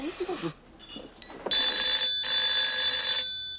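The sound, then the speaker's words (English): A telephone rings loudly, a bright electronic trill in two long bursts separated by a brief gap, preceded by faint chatter and rustling. “is standing in front of the ringing phone, reaching her hand tentatively forward.”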